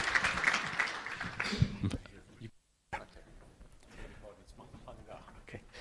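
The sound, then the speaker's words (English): An audience applauds an economist introduced as the next speaker, talking about the future, clapping steadily for about two seconds, a dense crackle of many hands, then it cuts to a brief silence before a single voice begins talking. “So why don't you give a big round of applause, please, for our next speaker talking about the future.”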